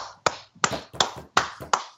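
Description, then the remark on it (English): A hand bangs on a table five times in quick, uneven succession as a mock round of applause, each thud sharp with a brief ringing decay, and no voices in between. “But did you just give them a round of applause? I just smashed my table.”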